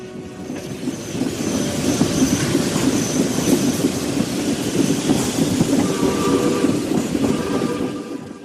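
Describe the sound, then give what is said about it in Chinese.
A train carrying Abraham Lincoln to Gettysburg on 18 November rumbles steadily along the rails, its wheels keeping up a dense, rhythmic clickety-clack with faint high metallic whines above the low roar, continuous for the whole stretch. “11月18日，林肯启程坐火车前往葛底斯堡，火车中途在巴尔的摩停低，很多群众在那里迎接他。”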